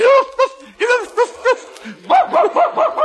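A dog barks in a rapid series of about ten sharp, yappy barks, a few spaced out at first and then a quicker cluster, loud with no talking.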